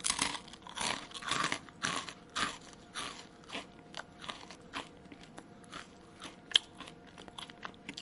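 Loud, wet chewing and crunching of chicken from a chicken bucket, a steady run of irregular bites and smacks lasting several seconds with no voices, one sharper crack near the end.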